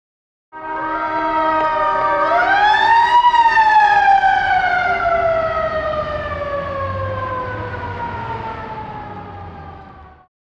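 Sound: police car siren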